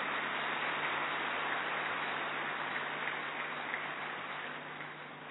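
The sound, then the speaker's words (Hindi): Steady, dense applause from a crowd welcoming a speaker from Mumbai, a continuous wash of clapping that holds evenly for several seconds before easing slightly at the end. No one speaks over it. “हम सभी जोरदार तालियों से उनका स्वागत करते हैं।”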